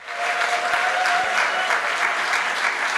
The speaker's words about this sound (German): Anhaltender Applaus für den Kerlke-Preisträger 2024.